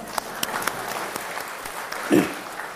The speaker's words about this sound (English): Sisters, yes, we can clap, please.